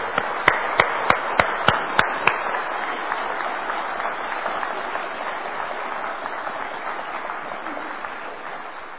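An audience breaks into applause, opening with a few loud, evenly spaced claps before swelling into a steady, dense roar of many hands clapping that gradually fades over several seconds.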